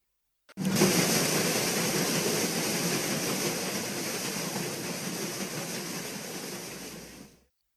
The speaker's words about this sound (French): Mais le jour suivant, ils entendirent de nouveau le bruit dans l'eau et virent passer une nouvelle fois le vapeur, faisant beaucoup de bruit et lâchant tant de fumée qu'il obscurcissait le ciel.